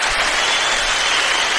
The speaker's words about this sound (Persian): تشویق کردم دوستم و شما هم میشنوید.